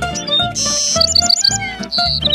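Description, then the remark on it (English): Quick, high bird chirps and tweets in a forest come in short bursts, some in rapid repeated runs, over a steady, fairly loud musical backdrop with no one talking. “Come meet bugs and birds.”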